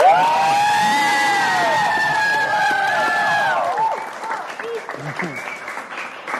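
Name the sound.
audience applause and cheering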